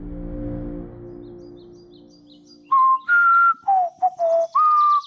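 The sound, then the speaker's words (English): A low droning hum fades away, then a man whistles a short tune while rocking back and forth on his heels in a prison yard: several clear, bright notes that rise and fall in pitch, with brief pauses between phrases. “He just rocked back and forth on his heels, whistling.”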